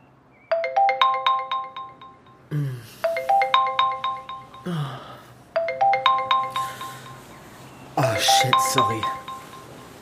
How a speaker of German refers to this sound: Sorry, ich hatte den Wecker noch gestellt.